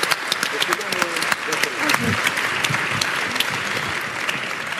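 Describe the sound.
An audience applauds steadily at the close of a discussion session, many hands clapping in a dense, continuous patter that holds at an even loudness for several seconds, with faint voices murmuring underneath.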